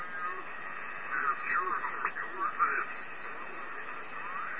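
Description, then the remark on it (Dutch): A shortwave radio tuned to the 40-meter band hisses with band noise, a garbled, warbling voice drifting in and out of the static, narrow and tinny like an amateur transmission. “Ik heb maar momenteel op 40 meter staan.”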